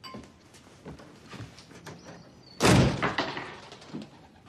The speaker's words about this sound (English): Jacques slams the empty champagne bottle on the bar.